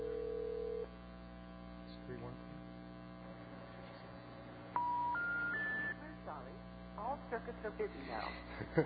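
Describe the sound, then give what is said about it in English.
Telephone touch-tone dialing of a local number using a calling card, over a steady line hum, with short electronic beeps, then a rising sequence of three tones and some faint muffled voices toward the end. “It's got to be a local number, though, because we can't call 818.”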